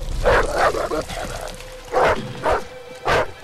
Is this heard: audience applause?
no